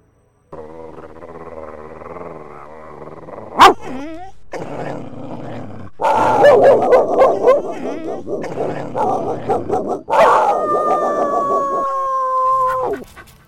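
Dogs scuffle, snarling and growling in harsh bursts with sharp yelps and barks cutting in, ending in a long, drawn-out whining howl.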